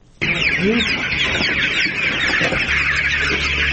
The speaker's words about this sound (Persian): چراغ برق در داخل سالن پرورش مرغ‌ها به هنگام داخل شدن اولین نگاهی بیننده را به خود می‌کشاند. در زیر نور برق صدها مرغ سپید رنگ به چشم می‌خورد که در حرکتند. اینجا اولین فارم زنانه به تازگی در منطقه تتمدره ولایت پروان ساخته شده است.